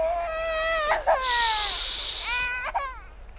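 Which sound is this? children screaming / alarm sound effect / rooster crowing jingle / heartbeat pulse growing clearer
children screaming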